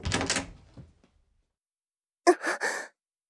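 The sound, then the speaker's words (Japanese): A door handle turns and a door opens: a soft rushing swish fades out, then after a pause come three quick, firm latch clunks in a short burst. “年若い青年だろうかと想像しながらドアノブをひねる。”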